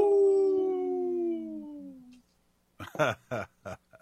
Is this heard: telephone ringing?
no